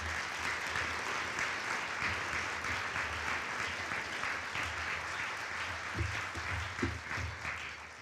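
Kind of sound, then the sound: crowd, audience applause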